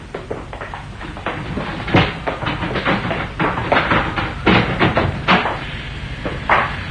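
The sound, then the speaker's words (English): A locked door in a building is unlocked and opened: a string of sharp clicks and solid clunks at an uneven pace, with a few louder knocks toward the end and no voices. “I took the precaution of locking the door just in case the murderer was still lurking in the building.”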